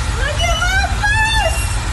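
An electric school bus hums, its motor whine rising in pitch twice as it pulls away over a steady low road rumble.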